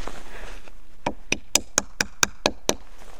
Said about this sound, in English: You can really hear that echo up through the tree. You can. That's the trick we tell the kids, too. Because you don't want to hit the tap too hard. It splits the tree. Tap till you hear that hollow sound. Then you know your tap is in all the way.